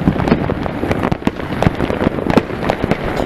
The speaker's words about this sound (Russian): Только салюты должно быть видно. Ох! Нихера себе. О, это во дворе пускают. С Новым годом!